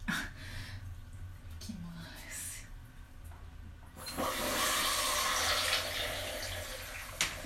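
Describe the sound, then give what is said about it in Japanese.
Quiet background with faint rustling, then a shower head suddenly bursts on about halfway through, producing a loud, steady hiss of spraying water that continues to the end; the shower head is being held against the body during masturbation. “まずはクリトリスにこうもうセックスみたいなこうクリトリスにこうやってシャワーの先を当てて、”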